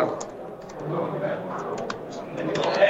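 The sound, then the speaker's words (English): Irregular light taps of someone typing a message on a computer keyboard in Austin, Texas, soft clicks scattered over a low murmuring background, with a slightly busier burst of keystrokes near the end. “And I'm just going to type a message to the engineer right now.”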